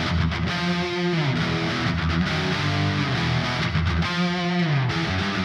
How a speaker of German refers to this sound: Und du hörst tatsächlich, auf der rechten Seite ist jetzt der Nachhall und auf der linken Seite ist das trockene Signal von unserer Gitarre. Zusammen klingen die beiden Gitarren dann so, jeweils mit ihrem Kreuzhall draufgelegt.